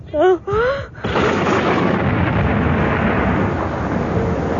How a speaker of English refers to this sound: In our approach march to Salamanca, in crossing the Agada River, we were hit by a storm of incredible ferocity. Several cavalry horses were killed by lightning.